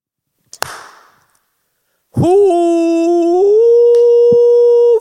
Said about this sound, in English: Did you see my clap? I threw the mic up and clapped and caught it.